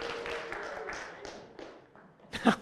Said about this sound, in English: Thank you. Everybody give Josias a round of applause.